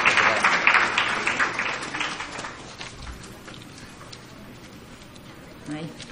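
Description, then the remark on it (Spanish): A crowd claps in a dense, steady patter to welcome a speaker being introduced, loudest at the start, then thinning and fading toward the end, with murmuring voices mixed in. “Por favor, brindémosle un aplauso caluroso.”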